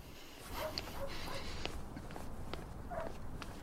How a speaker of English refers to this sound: He strides quickly through an empty, low-lit estate.